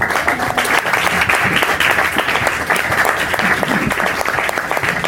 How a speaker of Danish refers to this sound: Det må man gerne klappe af.